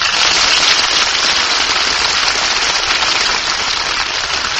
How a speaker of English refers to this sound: Hear that applause? Oh, they loved you, Jane.